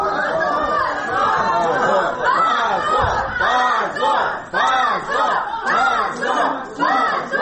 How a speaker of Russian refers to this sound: Десятки человек, среди которых были родители, друзья подсудимых, а также группа активистов, приехавшая накануне из Москвы, встретила такое решение криками «Позор! Свободу политзаключенным!».